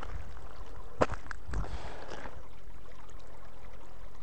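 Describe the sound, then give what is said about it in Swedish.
Clean, clear water babbles steadily down from high up on a mountain in a constant, hissing rush, broken by a sharp click at one point and a soft splashy knock shortly after. “Jag hör ingenting, jag hör bara musiken här, men ni hör säkert att det pålar här med vattnet.”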